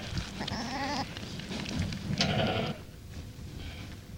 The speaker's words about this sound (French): Ces brebis émettent aussi des bêlements maternels et laissent l'agneau accéder à leur mamelle, pourtant non fonctionnelle.